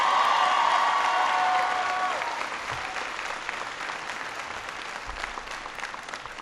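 A crowd claps steadily with some cheering and a few whistles, loudest at first and then easing to a softer, sustained patter of applause.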